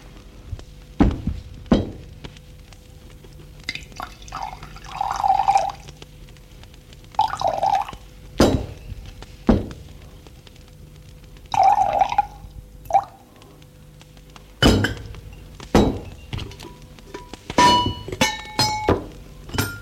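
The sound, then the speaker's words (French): Tea with sugar, lemon and a drop of milk is poured into cups and served by a woman, in several short bursts, between sharp clinks and dull knocks of china being set down and handled, with no voices. “Thé avec sucre, citron, lait, une goutte de lait. Merci. Et elle fait le service.”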